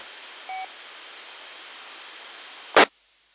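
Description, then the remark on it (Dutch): A single short telephone keypad beep, made while dialing a call, sounds over a steady telephone-line hiss, followed a couple of seconds later by a sharp click, after which the line falls silent. “Ik moet even de telefoon pakken.”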